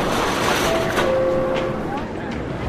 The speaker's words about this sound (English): Now we're inside the New York City subway. where millions of people pass through to get around the city. We can hear the subway cars on the tracks, doors opening and closing.